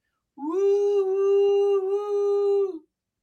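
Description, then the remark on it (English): A voice imitates a ghost's wail: one long, steady hooting 'oooo' held for over two seconds, swooping up at the start and sagging down at the end, with no other talk. “Sounds like you're going, choo-choo, I'm a ghost.”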